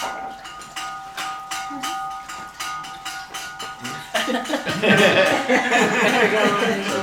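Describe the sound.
A bell rings with a steady, sustained tone over a series of rhythmic clanks, then a louder jumble of voices and clatter rises over it in the second half.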